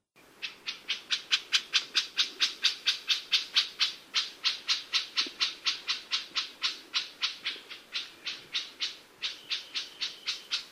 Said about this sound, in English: Chuck, chack, or clack approximates a sound issued by several birds. This first one may be the most familiar, an elapio scold in rapid, agitated cadence.